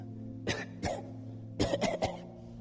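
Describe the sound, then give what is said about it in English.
A voice imitates coughing: two short fake coughs, then a quick burst of three more, fairly loud over a steady low hum, with no speech. “Pretend coughing.”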